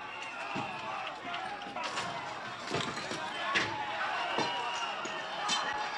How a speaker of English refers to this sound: The grating in front of City Hall continues to get torn down.